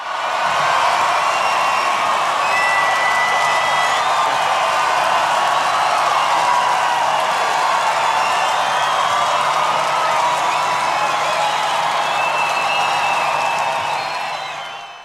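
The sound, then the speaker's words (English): A large crowd cheers and applauds continuously, with whoops and shouts rising over steady clapping; loud, dense and sustained for about fifteen seconds before easing slightly at the end. “That cheer goes out to all the parents out there kicking some ass, doing the thing.”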